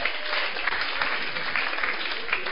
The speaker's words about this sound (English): Oh, the men have it. Let's clap for them. Clap for them.